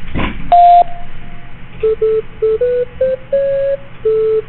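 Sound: voicemail beep tone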